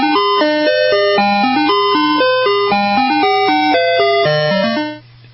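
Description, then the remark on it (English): A bright, tinny ice cream truck jingle plays La Cucaracha, a bouncy, stepwise melody over a steady low drone, loud, looping for several seconds before cutting off abruptly. “Counting them down to number 1. Number 8, La Cucaracha, La Cucaracha.”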